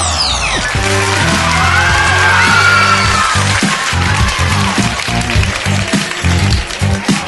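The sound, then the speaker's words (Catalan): The audience of a spelling quiz contest claps and cheers loudly and continuously for the contestants, with whoops rising over the din, while a rhythmic, bass-heavy music beat pulses underneath for the whole stretch. “Molt bé, aquests aplaudiments animant els concursants, així m'agrada.”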